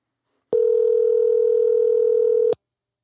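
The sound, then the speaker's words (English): A steady telephone dial tone sounds alone for about two seconds as a call is placed to a guest from a studio, a loud, unbroken mid-pitched hum that starts and stops abruptly, with no ringing pattern and no voices. “Let's give her a call.”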